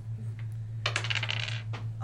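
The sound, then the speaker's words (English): Dice, including a damage die, are rolled during a tabletop role-playing game. They clatter and tumble across a hard surface in a quick burst of bright rattling clicks lasting about a second, after a couple of faint taps, over a steady low hum. “Roll a different die. Roll another die.”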